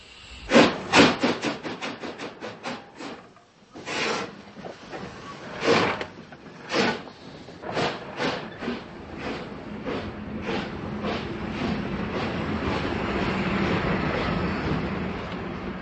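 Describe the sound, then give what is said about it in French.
A historic steam train locomotive of the Czech railways, running along the Sázava river, chuffs in rapid, sharp bursts that gradually space out, then its exhaust blends into a continuous loud hiss of steam, with no voices. “En plus du voyage dans un train à vapeur avec la fumée, les halètements de la locomotive, les coups de sifflet, la cloche”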